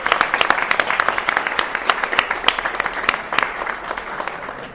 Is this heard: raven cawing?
no